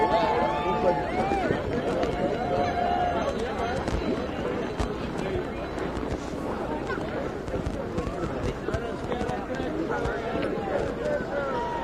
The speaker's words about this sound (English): I know the crowd wants some photos. There we go, another cheer for Ryan.